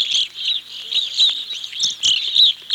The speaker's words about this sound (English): Call notes are very important in identifying migrating birds from a distance. I just about always hear evening grosbeaks before I see them.